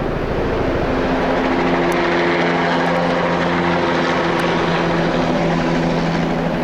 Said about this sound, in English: A helicopter equipped with spray tanks and nozzles doused the mountain with herbicide. You would suddenly hear the thunderous roar, and the helicopter comes up and over the mountaintop and hovers.